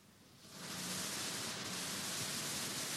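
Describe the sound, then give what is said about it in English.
Steady white noise from an electronic sound generator hisses in after a brief quieter start, a dense, even rush across the whole range that holds at constant loudness, with no voices. “A more complex sound still is white noise.”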